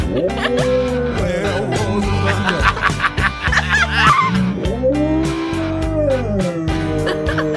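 A dog, Finnegan, howls in long, wavering, rising and falling cries over a steady band track with drums, the howls loud, repeating throughout the music.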